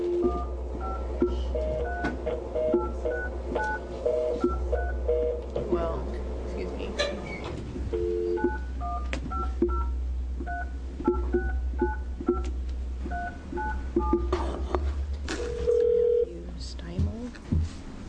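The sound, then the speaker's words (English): A long series of telephone keypad dialing tones, short paired beeps pressed one after another at an uneven pace over a steady low hum, with a brief longer tone near the end, as someone is called by phone during a House Business and Labor Committee public hearing. “And do we need to call somebody up? via phone.”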